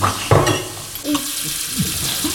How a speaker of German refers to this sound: Alle mit Wasser füllen, bevor sie den Hahn abdrehen. Ja, genau. Trinkt so viel aus dem Hahn, wie ihr könnt. Trinkt doch.